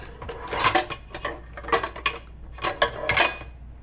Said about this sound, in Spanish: O quizás también, desplazándome hacia la zona de la cocina, ¿de qué manera suenan los trastes o las ollas?